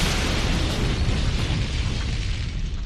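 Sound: dynamite explosion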